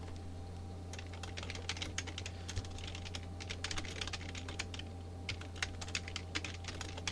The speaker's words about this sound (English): Listen to me typing, children. It's brilliant.